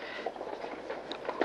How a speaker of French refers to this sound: Encore des bruits de pas. Ils furent des dizaines de milliers, peut-être des centaines de milliers aujourd'hui. Toute la journée, le long des grilles, la foule s'était massée.